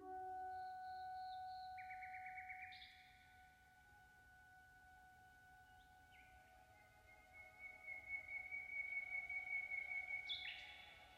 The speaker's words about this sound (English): The full moon reveals the profile of the pines of Gianicolo's hill. A nightingale sings.